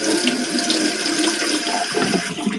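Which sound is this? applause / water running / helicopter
water running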